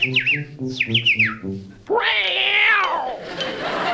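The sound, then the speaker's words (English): A man-eating creature chirps like a canary: a quick run of high, warbling chirps in short bursts, then one long, loud, wavering squeal that trails off. The sound is clear, with no talking. “Chirp for the people.”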